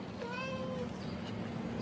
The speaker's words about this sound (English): Don't kill it, bitch. It's a house cat.